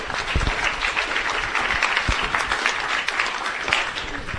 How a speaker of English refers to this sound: So a round of applause for our new members.